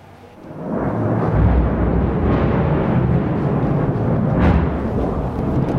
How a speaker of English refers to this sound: And a short time later, we heard this massive strike.